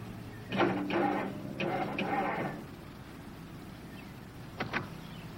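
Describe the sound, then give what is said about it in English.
A car's starter motor grinds and whirs in a few short, uneven bursts, then falls silent, with one last brief crank at the end; the engine never catches. “Nothing seems to be working. Can't even get the car started.”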